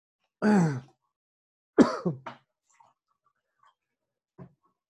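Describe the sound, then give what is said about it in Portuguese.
A person chokes and gasps for air: a long strained rasping breath, then two sharp coughing gasps, followed by faint breathing and a small final catch. “Ufa, desculpa, gente, quase morri aqui, mas estou vivo. Engasguei aqui, mas já tá, já bebi uma água para melhorar.”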